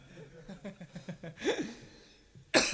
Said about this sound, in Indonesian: Batuk.